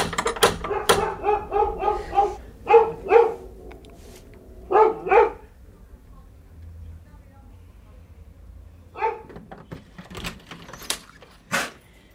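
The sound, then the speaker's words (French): A female dog barks repeatedly at a knock on the small blue front door of house number 44, loud sharp yaps in quick bursts over the first few seconds, then falls silent before a few more scattered barks and sharp clicks near the end. “Est-ce que ma chienne a envoyé parce que vous avez frappé à la porte, je pense?”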